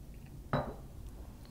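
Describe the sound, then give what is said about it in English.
A single glass clink rings out briefly, as if a glass is set down against another beside a dump glass before a spirit is poured, then fades into quiet with no talking. “Dump glass here. Thank you very much. When he's done, I'm gonna pour.”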